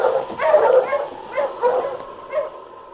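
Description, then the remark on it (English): A team of husky sled dogs bark and yip excitedly in a string of uneven, moderately loud bursts, with brief pauses between the yelps and no talking. “All right, mush you, Husky!”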